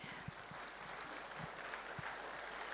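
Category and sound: crowd, faint audience clapping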